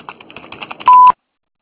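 A rapid run of short, clear touch-tone telephone dialing beeps ends in one longer steady beep, then silence. No one speaks.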